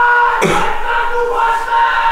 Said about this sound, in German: Es geht ab. Jo! Schreien die ersten draußen rum.